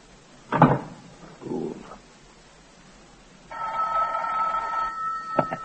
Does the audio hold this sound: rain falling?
no